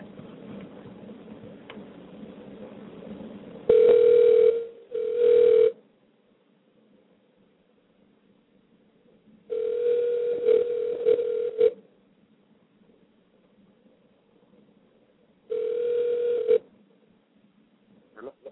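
A phone line rings back while a call is being placed to reach a guest: three steady tonal rings, the first a double burst, separated by pauses of quiet line hiss, fairly loud.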